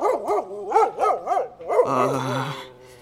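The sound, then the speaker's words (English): A huge dog growls, starting with a run of wavering, rising-and-falling vocal sounds and then settling into a rough, deep snarl before fading. “The bison wasn't, but the dog did growl at us.”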